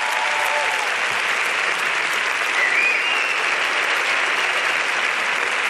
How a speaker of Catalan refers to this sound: Agustí Villaronga, 16 nominacions per Incerta Glòria. Un aplaudiment per Agustí Villaronga.